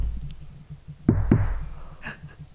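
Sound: knocking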